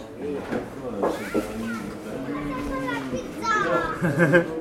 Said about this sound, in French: Ah ben il est midi, ça y est, c'est la sortie des classes quoi. Là, ils ont senti l'odeur d'ici quoi.